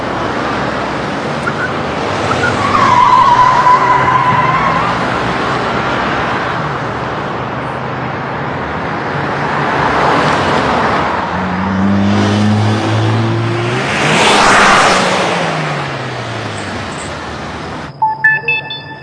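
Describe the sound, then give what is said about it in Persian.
A car drives past with a steady rush of road noise and engine hum, the motor swelling and shifting pitch as it accelerates midway, fairly loud. “ماشین مثل این که تغییر رو میکنن. شاید مسیرش با ما یکیه.”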